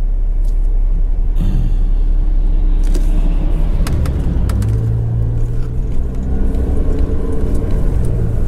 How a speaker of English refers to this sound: we got a traffic jam in the middle of Camden today.